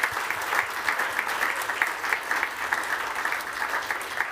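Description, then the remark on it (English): Sustained audience applause for the speakers at the Attune London event, a dense steady patter of many hands clapping at an even level for several seconds, with no voices standing out. “So a huge round of applause for all the speakers today for sharing their stories.”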